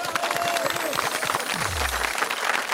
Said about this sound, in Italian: Applauso!